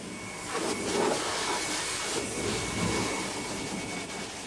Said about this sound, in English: washing his dog, Gracie.